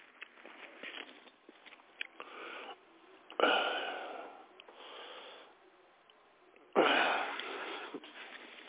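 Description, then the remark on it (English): Heavy, wheezy breathing into a phone by a man with COPD, with softer breaths throughout and two loud, rasping exhales standing out, all with a thin, narrow phone-line sound and no talking. “I just heard, like, breathing in the phone.”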